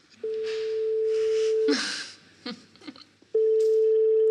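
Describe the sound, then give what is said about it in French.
A steady telephone ringing tone from an outgoing call to a remote guest sounds for about a second and a half, stops for a few clicks and rustles of the line connecting, then the tone starts again, clear. “qu'on va avoir au téléphone, qui va nous lire un poème à distance.”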